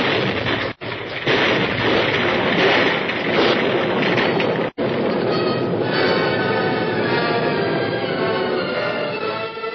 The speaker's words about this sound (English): Explosion. Yes. El Mundo was caught in his own trap. How about all them folks he had cooped up in there? They were in another part of the temple and weren't injured by the explosion.